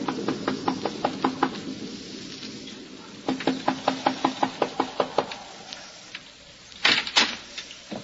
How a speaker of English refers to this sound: It is early in the evening, but the sky over Westchester County is dark and signals the approach of a storm. As a solitary traveler makes his way to the Wharton farmhouse, a lonely cottage overlooking the valley, he knocks at the door.